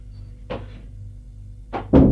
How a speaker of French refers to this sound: La porte du salon qui s'ouvre.